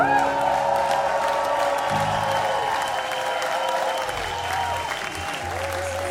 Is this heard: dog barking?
no